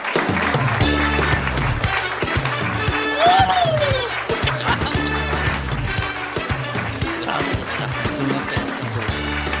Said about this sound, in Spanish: Un aplauso, por favor.